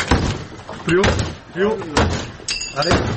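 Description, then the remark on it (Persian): Police force open a room door while removing people living illegally in a residential complex who refused to leave. Several loud, heavy bangs land roughly once a second while raised voices call out over and between the blows. “برخی اما نمی‌خواستند از آنجا بیرون بروند و پلیس ناگزیر شد در اتاقشان را بشکند.”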